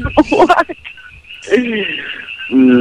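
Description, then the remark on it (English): A dense chorus of frogs croaking, a constant high trilling under a few louder, throaty croaks that rise and fall in short bursts. “It's all the frog noise.”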